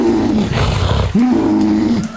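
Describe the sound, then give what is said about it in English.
A tiger's deep roar rumbles out loud, two drawn-out growling bellows separated by a brief catch of breath, with no talking over it. “Right, the male tiger, he's just hanging out like eating an antelope.”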